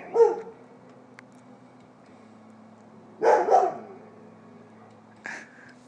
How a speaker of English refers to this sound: And Chip is having a bark fest with the neighborhood puppies.